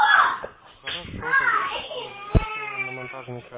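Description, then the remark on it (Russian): Children shout and yell in high, strained, loud voices, with a sharp cry partway through and wailing harmonics continuing to the end. “Я извиняюсь, посмотрю, дети орут, я не всегда слышу.”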